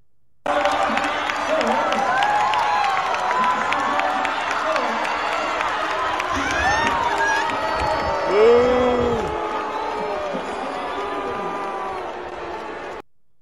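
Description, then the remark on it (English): A large stadium crowd in the stands at a women's race boos loudly and continuously, a dense wall of voices with scattered shouts and whistles rising above it, filling the whole stretch before cutting off abruptly. “And of course, you know, it's a dude out there kicking the women around, and the people in the stands were booing, and I'll play it for you in a second.”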